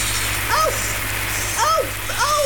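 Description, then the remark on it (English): A steady hiss of hot water spraying and pattering onto a hard tabletop, continuous throughout, with three brief rising-and-falling squeaky tones cutting in over the spray. “Oh, there's so much water! Oh, it's hot!”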